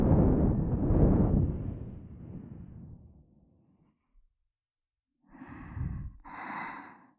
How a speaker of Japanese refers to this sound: 耳に当たった吐息の感触、中をくすぐる風の音、全部全部、あなただけのものなのですよ。